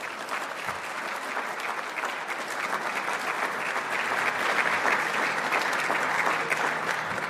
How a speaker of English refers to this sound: Let's have one more round of applause for D.C., Washington.